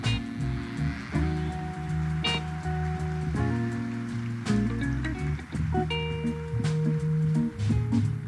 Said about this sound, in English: A big round of applause, ladies and